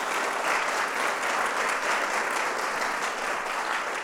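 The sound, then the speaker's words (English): A crowd applauds steadily for about four seconds at the Kids State Dinner, a dense, even wash of many hands clapping at once with no voices standing out, applauding everyone who helped put the event together. “So let's give everyone who helped put this event together a wonderful round of applause.”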